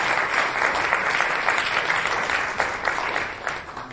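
Steady applause from a large audience welcoming a guest speaker fills the space, a dense wash of many hands clapping at once, sustained and fairly loud throughout with no voices rising above it.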